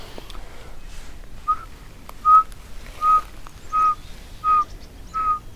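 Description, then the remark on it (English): A person whistles an imitation of a pygmy owl call to draw in red-breasted nuthatches: six short, evenly spaced single-pitch toots, clear, about one per second. No voices accompany it. “Here are some red-breasted nuthatches that I just whistled in. They hate pygmy owls.”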